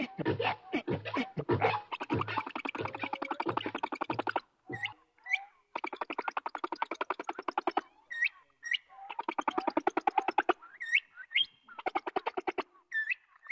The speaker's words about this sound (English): his whole project was wondering why it was that you took the song of a humpback whale, this long 30-minute song that repeats up to 24 hours of singing. If you speed it up, it sounds a lot like a complex bird song, like a nightingale or a mockingbird.